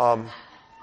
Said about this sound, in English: That's Laverne's phone. Okay. All right. We've got wolves in the sound booth.